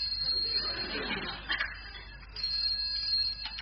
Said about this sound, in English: Phone ringing. Sound effect.